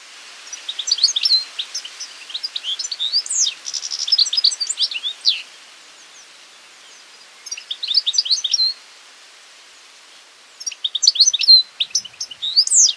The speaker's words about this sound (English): How about the European goldfinch? Carduelis carduelis. The bird's so nice, they named it twice. Here's a European goldfinch singing.